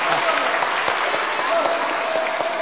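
A choir group bursts into steady, dense applause for one of its members, many hands clapping together in a continuous crackling wash that holds at an even loudness for a few seconds.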